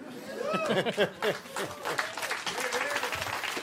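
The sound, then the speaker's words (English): The audience of the show Love It or Leave It applauds steadily, a dense patter of many hands clapping, mixed with voices calling out and cheering over the top throughout. “Don't applaud that.”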